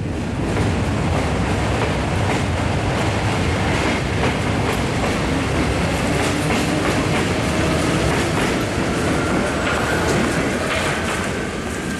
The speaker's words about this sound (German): Es sollte eine U-Bahn sein. Eine U-Bahn, okay.